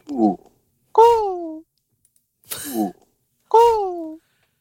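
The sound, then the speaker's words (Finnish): A person imitates a cuckoo with their voice, giving four hooting, downward-sliding calls in two spaced pairs, fairly loud, with short silent gaps between them. “Sellainen käki.”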